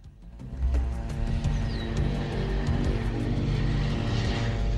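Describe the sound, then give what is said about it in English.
A loud, steady engine drone of an airplane fills the scene, swelling quickly in the first second and holding strong as it approaches and passes overhead, with no voices. “The Major's eyes narrow as he hears a plane approaching.”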